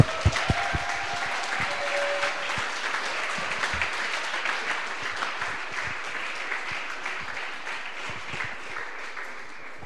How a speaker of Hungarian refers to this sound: Először is szeretném, ha megköszönnénk a szervezőknek, a szervezés egy nagy tapsal, úgyhogy köszönjük szépen a szervezőknek a hétvégét.